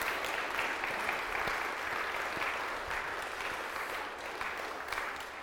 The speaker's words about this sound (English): If you all want to come up, and when you all get there, we'll give you a big round of applause.